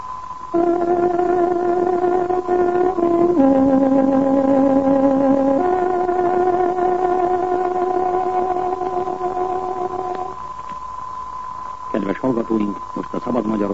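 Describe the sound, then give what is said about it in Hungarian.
A tárogató plays a shortwave radio station's time signal marking 17 hours: three long, sustained reedy notes, dropping lower and then rising again, over a steady high tone and radio hiss. A voice briefly starts at the end. “Most pontos időjelzést adunk. Tárogatónk hangja 17 órát jelez.”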